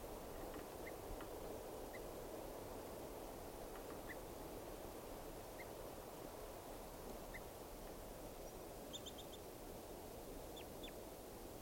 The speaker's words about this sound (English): Recording, these are alarm calls of bird 387.